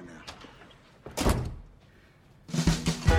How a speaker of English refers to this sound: Bad closes the door and discovers the security chain's broken.